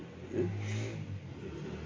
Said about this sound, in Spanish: Ahora pasa en moto.